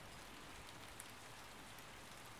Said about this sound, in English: Although it's cold, I think it's still pretty nice outside. The air always smells fresher during the rain like this.